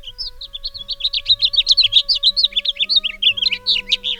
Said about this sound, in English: February is also when some birds start singing their spring songs. Listen around your yard for the melodic songs of house finches and for red-winged blackbirds singing in the wetlands.